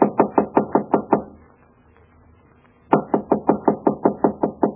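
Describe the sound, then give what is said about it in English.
Rapid knocking on a wooden playroom door: a quick run of about six sharp raps, a pause of near silence, then a longer, slightly louder burst of about nine knocks in a steady rhythm. “I brought presents with me. I knocked on the playroom door.”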